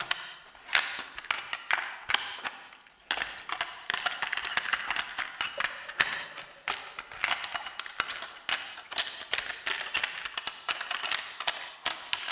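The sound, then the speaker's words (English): A woman fumbles a C90 cassette into a cassette machine: a long run of sharp plastic clicks, taps and rattles in irregular bursts, with no voices. “after some difficulty, finally succeeded in popping the C90 cassette into the rightful place.”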